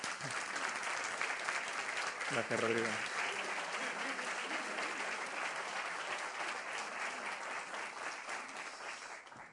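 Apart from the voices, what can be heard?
audience applause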